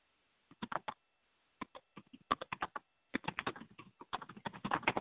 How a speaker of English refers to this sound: You may hear the keys as they tap ahead.